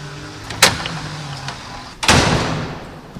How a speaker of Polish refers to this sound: Tu już jest domofon, czyli ten kontakt jest łatwiejszy. Pod warunkiem, że domofon działa. Może mi pan otworzyć drzwi, bo się nie mogę dostać? Proszę bardzo.